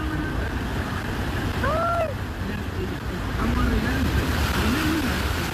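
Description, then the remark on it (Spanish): A vehicle ploughs through deep water, a continuous heavy rush and splash of churning water that swells slightly toward the end, with brief faint voices calling out over it. “Oye, pero mira la cantidad de agua. ¿Es una lancha o una camioneta?”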